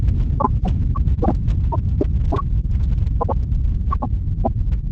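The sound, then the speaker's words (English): An earthquake recording of the earth tearing, from a recording that goes on for almost 8 minutes: a loud, steady low rumble and throb, dotted with irregular sharp cracks and brief higher pops throughout, with no voices. “That's the earth ripping, the sound of the earth tearing, a big part of the earth itself tearing.”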